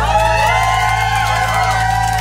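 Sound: audience applause and cheering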